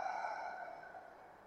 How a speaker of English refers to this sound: And then breathe out through the mouth. And let the out-breath be long. Breathing in through the nose. And breathing out through the mouth.